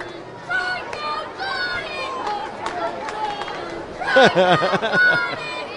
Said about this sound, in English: We've got the alternating chance. The kid cheering for the strikeout of Johnny is getting answered by the Let's Go Johnny.